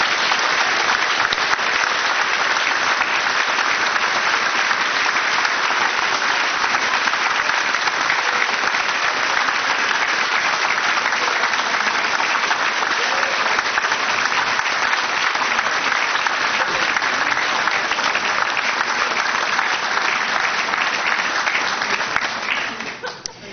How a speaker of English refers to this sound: Thank you. Shall we give them both a round of applause? They did a wonderful job.